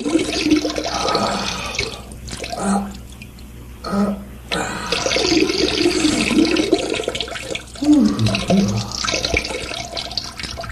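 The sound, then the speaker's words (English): A person urinates into a sink basin, the stream splashing in a steady hissing rush, broken by a few short pauses before resuming, fairly loud with no voices. “I've been pissing in the sink.”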